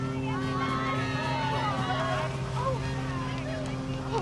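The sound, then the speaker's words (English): A departing boat's engine drones steadily and evenly as it leaves the dock, with wind noise and crowd voices and shouts layered over it throughout. “The boat's gone without them.”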